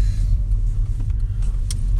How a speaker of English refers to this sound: It's the oil tanker behind us. Yeah, oh my god. That's the loud hissing noise that you're hearing. It's the oil tanker. I turn around and I just see a giant truck, like, just riding our ass.